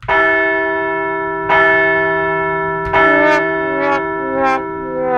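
A large bell rings out loudly three times at a steady pace, each strike leaving a long, shimmering tone that overlaps the next and slowly fades.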